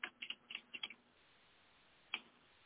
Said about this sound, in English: I'm typing in.